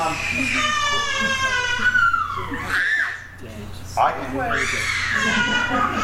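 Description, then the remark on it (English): A child screams in two long, high-pitched, piercing bursts, the pitch wavering and sliding, with a short break between them. The screams are loud and continuous, with no talking. “Well, oh, that's a quality scream.”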